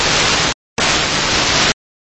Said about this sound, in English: If you're trying to call, there's no audible words coming out in the transmission. If you can hear me squawking it.